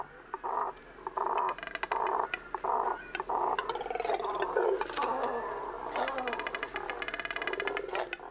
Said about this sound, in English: These deep, guttural sounds are coming from a nesting colony of double-crested cormorants. Large black water birds with short legs and long necks.